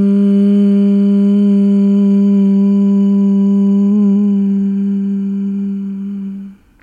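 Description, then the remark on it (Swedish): Several voices hum the word "hum" together on one steady low pitch while breathing out in a relaxing breathing exercise, a loud sustained tone that holds for about six seconds before tapering off and stopping. “Andas ut för att börja. Hum.”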